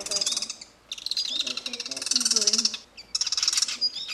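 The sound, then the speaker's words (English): Two chimney swift fledglings at a bird center give loud, buzzy, high-pitched chittering calls while being fed mealworms from tweezers, in three rapid bursts separated by brief pauses, with a faint lower murmur beneath. “Two chimney swift fledglings are flying around the bird center.”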